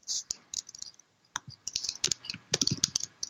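Rapid, irregular clicking of keys on a computer keyboard, close and fairly quiet, with bursts of taps and a brief pause before the typing resumes more densely.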